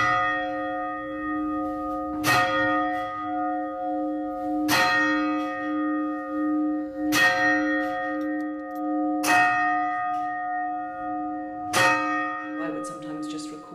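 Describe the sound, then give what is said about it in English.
A church bell tolls in slow, steady strokes about every two and a half seconds, each strike ringing out with a long, humming resonance that lingers between hits. “I'd record the bells, I'd record the sounds of people coming in and out of rehearsal.”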